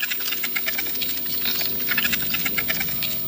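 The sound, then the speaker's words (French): Leafcutter ant stridulation, made by the ants rubbing two abdominal segments together to call their nestmates: a dense, steady stream of rapid, raspy high-pitched chirps and clicks, pulsing continuously for a few seconds with no voices over it. “Cette petite stridulation permet aux fourmis d'appeler leurs congénères.”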